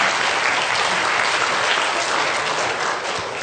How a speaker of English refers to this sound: you can clap, go, yeah, go.